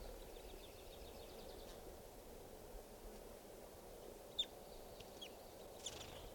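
A male wild bird, coming in and going down, gives a few faint, sharp clucks spaced irregularly over a steady hiss of background noise, with no one speaking.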